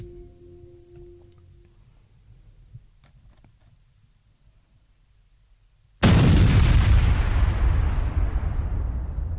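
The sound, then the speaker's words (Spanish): Low, muffled rumbling and faint thuds of artillery fire build tension before a sudden, very loud explosion erupts near the end, its roaring blast lingering and slowly fading. No one speaks. “Cada explosión los hacía caer al suelo, cubrirse la cabeza, contener la respiración.”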